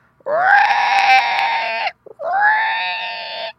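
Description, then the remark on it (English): Two long, loud steam locomotive whistle blasts, each swelling up in pitch at the start and holding steady, separated by a short gap, heard alone with no voices, from an engine drawing a train of cars up to a station. “It was only the engine drawing the train of cars up to the station to take the passengers away”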